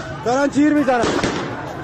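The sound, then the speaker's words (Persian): A raised, shouting voice is followed by a couple of sharp, cracking gunshots echoing in a noisy outdoor street during a protest in Iran, with crowd commotion underneath. “دارن تیر میزنن.”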